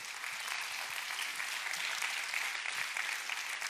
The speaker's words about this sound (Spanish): Bueno, dale un aplauso a Dios porque él.